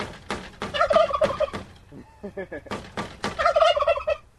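Several heirloom turkeys in a pen outside greenhouses at Growing Power gobble in loud, rapid rattling bursts after someone taps on the pen to get them to sound off, two main volleys with a brief quieter stretch of scattered calls between them, with no talking.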